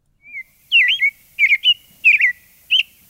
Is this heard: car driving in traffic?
no